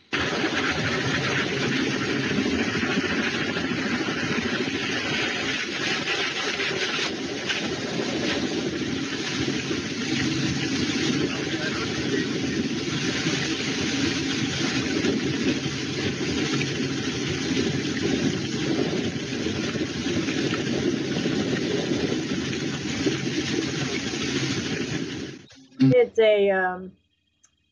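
A helicopter passes overhead in South Africa in heat of over 100 degrees, with a loud, steady droning roar of rotor and engine that fills nearly the whole recording, then cuts off abruptly near the end.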